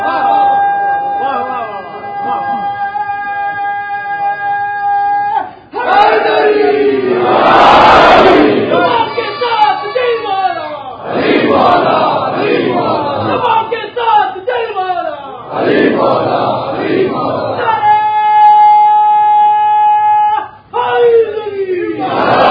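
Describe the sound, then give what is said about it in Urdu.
A large crowd chants a religious slogan invoking the name of Ali in loud, rhythmic bursts of many voices, with steady sustained tones running underneath and brief pauses between the rounds of shouting. “اور یہی نعرہ جو آپ نے سنا اس نعرے کو مزید آگے بڑھانا ہے, زبان پہ بھی علی کا نام ہوگا دل میں بھی علی کی محبت ہوگی,”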